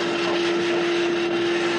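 A dental saliva suction device runs continuously, vacuuming saliva out of a mouth: a loud, steady hiss of sucked air with a constant low-pitched whine underneath and no pauses or talking.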